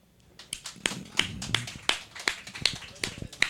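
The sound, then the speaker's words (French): A few audience members clap in a loose, steady rhythm, sharp individual claps a third of a second apart rather than a full crowd's roar, with faint murmuring underneath, applauding as a vote on a question put to them. “Par applaudissement, qui pense que les pédophiles méritent une peine maximale, une grosse peine maximale, voire la peine de mort?”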